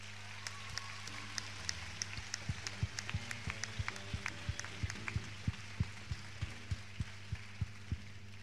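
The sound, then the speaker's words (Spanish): Scattered audience applause for a trumpet player: sharp, irregular claps that grow a little denser and steadier toward the end, over a constant low hum, with no talking. “Un aplauso para él.”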